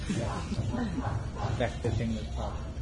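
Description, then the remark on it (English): A person mimics a hoarse, raspy dog bark, repeating rough barks in a steady, quick rhythm, fairly loud. “You know, when dogs bark for a long time, they start to sound like that.”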